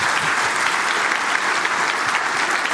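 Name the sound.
audience applause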